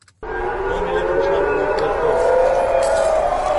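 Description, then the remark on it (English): Air raid sirens wail continuously in Tel Aviv and Jerusalem as Iran fires missiles towards Israel, a sustained rising tone layered with a broad hum of background noise, loud and steady from start to finish. “Sirens and explosions could be heard in Tel Aviv and Jerusalem.”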